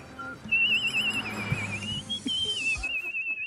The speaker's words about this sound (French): Ça siffle. Ah oui, il y a... Ça siffle dans la rue. Peut-être un oiseau.